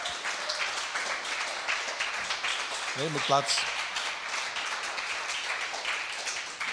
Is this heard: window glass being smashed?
no